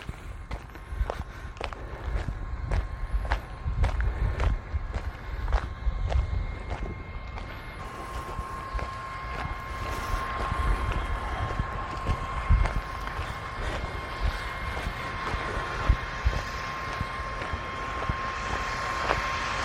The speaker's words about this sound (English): It's the sprinklers working on this giant field over here. And it's the water pump and whatever helping to run all the sprinklers for this field. You can probably hear just in the background now the sprinklers going.